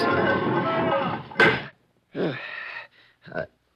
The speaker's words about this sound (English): Quick. Get inside. Okay, pull the door shut behind you.